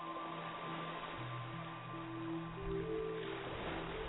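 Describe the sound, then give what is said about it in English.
A steady, hushed wash of ocean waves rolls on continuously, blended with soft sustained musical tones that hold beneath the surf at a gentle, even volume. “Listen to the sounds of the waves and the music and my voice.”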